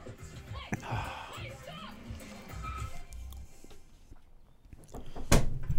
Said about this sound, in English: Someone's definitely knocking on the door.